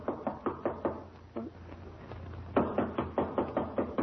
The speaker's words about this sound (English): Mother, I don't hear any sounds inside. Oh, dear. Well, try knocking. Maybe the bell is out of order.